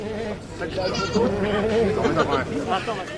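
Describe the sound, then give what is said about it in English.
Goats and lambs bleat repeatedly in wavering, overlapping cries, loud, while a crowd murmurs and chatters in the background throughout; farmers brought the animals to Lyon City Hall, France, to protest the removal of meat from school menus. “Farmers came to Lyon City Hall with goats, lambs, and cattle to protest the removal of meat from school menus.”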